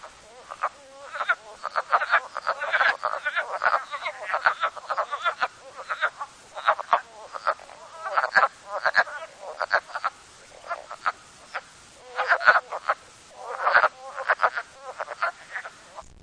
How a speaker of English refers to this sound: Category 1 means that individuals can be counted and there is some space between calls. Generally, this is between 1 and 6 wood frogs.